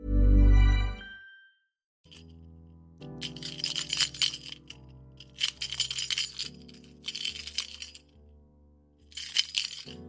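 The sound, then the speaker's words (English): A set of keys fitted with a tracking device is shaken hard in four vigorous bursts of bright metallic jingling, fairly loud, separated by short pauses, over a low steady background tone after a deep opening thud. “Quite aggressive key jingling there, and the reason is it's not an ordinary set of keys.”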